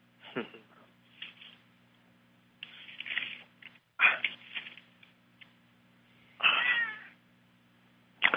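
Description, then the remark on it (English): A cat named Zeke meows repeatedly, several drawn-out, fairly loud cries spaced a second or two apart, with a faint steady hum underneath and a few quieter rustles between calls. “Do I hear a cat in the background?”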